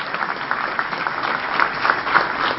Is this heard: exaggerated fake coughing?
no